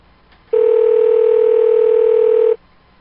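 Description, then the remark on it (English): A loud, steady telephone tone sounds alone for about two seconds while placing a call, starting and stopping abruptly, with quiet background before and after and no voices. “To place a call, please enter the phone number you would like to dial.”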